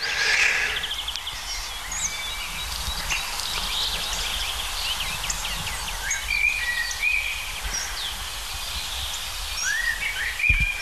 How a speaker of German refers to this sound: Natürlich eine der Hauptdarstellerinnen, die Amsel, besser gesagt der Amselbock.